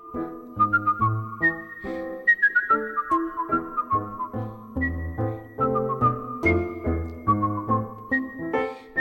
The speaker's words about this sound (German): Auch Bach wird gepfiffen, wachet auf.